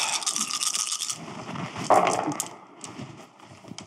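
A handful of seven dice rattles and clatters across a hard surface in a burst of sharp, overlapping clicks, with a sharper knock midway before the tumbling dies down. No one speaks.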